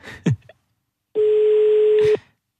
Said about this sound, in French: Sylvia, qui est au standard de cette émission, a composé le numéro de téléphone, donc ça sonne.